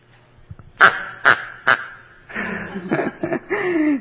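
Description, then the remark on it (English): A dog's squeaky rubber duck toy gives three quick, sharp squeaks about half a second apart, followed by a longer run of squeezed, honking squeals, loud. “This one is her ducky. Makes noise too.”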